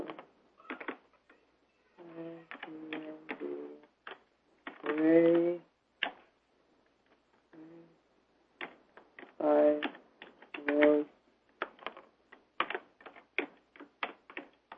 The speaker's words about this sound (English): Sorry, boring with my slow typing.